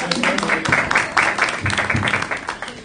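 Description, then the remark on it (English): A round of applause for the clerk from a group at a meeting with aldermen, dense overlapping claps sustained steadily for about three seconds at moderate loudness, with faint voices mixed underneath. “Round of applause for the clerk.”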